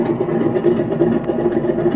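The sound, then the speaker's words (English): An engine that won't rev above 1450 idles steadily with a low, even rumble and a faint mechanical clatter, moderately loud, with no voices over it, as its switches are cut. “Given that rotten luck, she won't move a rev over 1450.”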